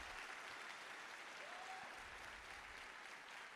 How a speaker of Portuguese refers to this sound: Quem crê assim? Pode aplaudir, ele merece.